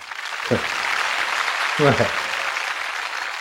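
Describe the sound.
A crowd claps steadily in a dense, continuous patter from start to finish, with a couple of brief voices calling out over the applause.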